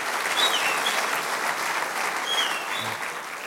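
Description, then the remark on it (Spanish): A crowd claps for the Lord during a sermon, steadily for several seconds, a dense, even wash of applause at a fairly loud level with no voices standing out. “¿Por qué no le da un aplauso al Señor por lo que Dios te ha dado?”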